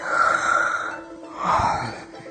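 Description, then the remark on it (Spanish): A person yawns: a long, breathy, drawn-out inhale that swells into a voiced groan, then a shorter sighing release, with no other talking. “Se bosteza.”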